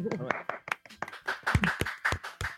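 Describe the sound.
A small group claps in brief, uneven bursts of sharp, crisp slaps, while voices chatter and cheer over the applause.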